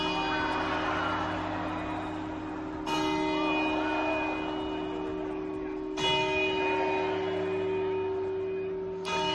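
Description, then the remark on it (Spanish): The large clock bell of the Real Casa de Correos strikes midnight in slow, evenly spaced chimes about three seconds apart, each ringing out and sustaining into the next over a murmuring crowd in an open square, at the rehearsal the night before New Year's Eve. “Y en menos de 10 horas vamos a dar la bienvenida a un nuevo año con las 12 uvas en la mano, siguiendo los compases de las campanadas del reloj de la Real Casa de Correos.”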